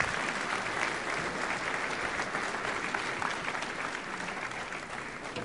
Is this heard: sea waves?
no